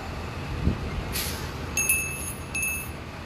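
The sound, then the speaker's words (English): A city bus in traffic at Riverside Park gives a sharp hiss of air brakes, then a high, thin brake squeal that lingers for about a second over a steady low engine rumble. Nobody speaks. “Let's see if there's anybody on the bus. Well, there's some people taking the bus ride.”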